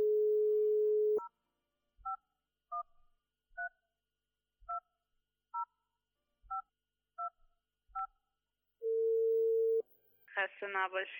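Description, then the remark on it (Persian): A telephone handset is picked up to dial a number shown on screen: a steady dial tone gives way to about ten crisp keypad beeps dialed in quick succession, then a single long ringing tone sounds before a voice starts speaking at the end. “بعدش از جای خود بلند شد و گوشی تلفن برداشت و شماره تلفن داخل تصویر را گرفت تا التماس دعا بگو و کمی سبک شد.”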